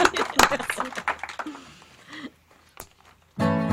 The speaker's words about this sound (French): On vous applaudit, tiens, pour la peine.